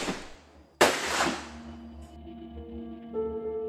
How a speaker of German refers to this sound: Die FTP-Kämpferin erschießt am helllichten Tag einen Nazi-Offizier auf der Pariser Fußgängerbrücke. 2 Schüsse.